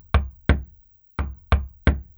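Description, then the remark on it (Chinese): Five firm, solid knocks on an office door: two quick raps, a short pause, then three more in steady rhythm, with nothing else audible. An assistant to the HR director is knocking on the general manager's office door. “汉翔坐在办公室，听到门口传来的敲门声。”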